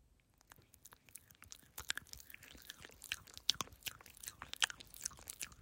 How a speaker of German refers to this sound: Das war aber gar nicht so einfach, nicht zu atmen und so ein Kaugeräusch zu machen.